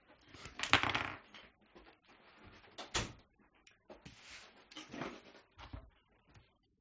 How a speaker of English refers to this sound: Sorry, I just gotta close the door.